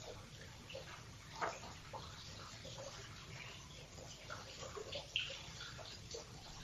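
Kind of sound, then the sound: household object, water fountain running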